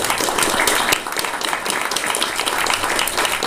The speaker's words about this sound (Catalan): Doncs bé, farem un aplaudiment al Ricard, que ens ha fet l'entrada. Un aplaudiment.